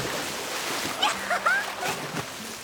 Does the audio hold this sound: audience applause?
no